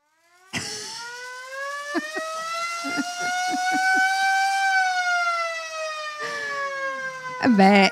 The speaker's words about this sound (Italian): insomma, volevamo sentirlo. Potremmo fare un festival solo su quello, il festival della sirena.